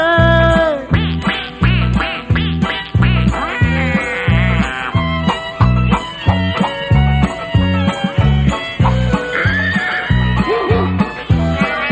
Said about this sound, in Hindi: 8 quack, 2 बतखों से।